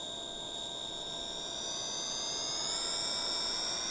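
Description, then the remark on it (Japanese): A loud, steady jet engine roar with a high whining tone that climbs slightly in pitch and grows a little louder, as combat craft numbers 1, 2 and 3 launch from the launch deck after its gate opens. No voices are heard. “発進デッキ、ゲート開放終了。戦闘艇1号、2号、3号、発進。”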